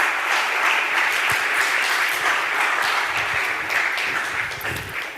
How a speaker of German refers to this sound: Heißt ihn doch mal mit einem herzlichen und warmen Lukas-Applaus ganz herzlich bei uns willkommen.